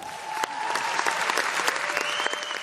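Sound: audience applause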